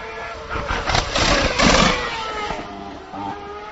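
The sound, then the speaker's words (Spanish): Vettel's Formula 1 car arrives at the third corner of the Hungaroring, its engine roaring with sharp, crackling exhaust backfire pops, which are fake explosions ordered by the gearbox electronics that send exhaust gas toward the diffuser. The pops are loudest in bursts midway through, before settling to a steadier drone. No one speaks. “Vale, ese petardeo es una explosión falsa.”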